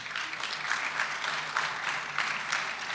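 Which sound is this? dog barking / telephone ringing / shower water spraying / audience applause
audience applause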